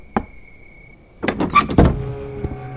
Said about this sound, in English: They reached the house of Arqam, where Zaid's knuckles gently rapped against the door's time-worn surface.